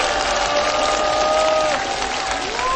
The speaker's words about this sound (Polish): No, te okrzyki i te oklaski swoje mówią, a bardzo często słyszę, że to jest najlepszy minister edukacji i nauki po wojnie II światowej.